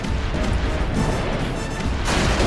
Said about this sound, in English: Captain, we don't have enough firepower to take on the prize! Load the chains! Yes, Captain! Ready the cannons! Fire!